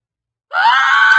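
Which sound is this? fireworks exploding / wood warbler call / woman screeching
woman screeching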